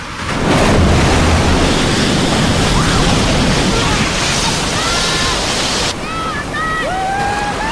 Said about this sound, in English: The little boat plunges down the rapids. It slows down, turns, and descends again. The boat drops down the final rapid.